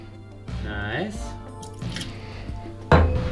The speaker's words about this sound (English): So we're going to start out with the Plantation Pineapple Rum. We're going to chuck 30 mils into our mixing glass there.